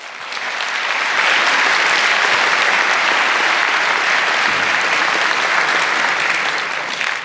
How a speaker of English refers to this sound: Please give a warm applause